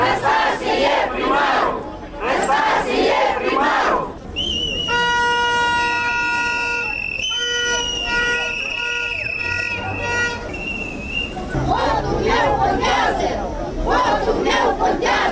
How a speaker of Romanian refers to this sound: Zeci de susținători ai platformei DA și ai primarului ales Andrei Năstase au ieșit și azi în stradă, anunțându-și protestul mai întâi la judecătoria Chișinău, după care la primăria Capitalei. Ei au cerut validarea mandatului primarului.